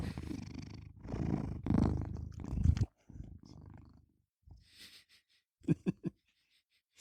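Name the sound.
cat purring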